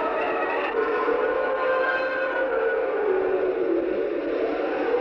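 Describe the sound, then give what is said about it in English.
A wooden floor upstairs in a deserted house creaks in one long, drawn-out groan, its pitch slowly bending as it stretches on for several seconds, fairly loud with no voices. “Then the floor creaked.”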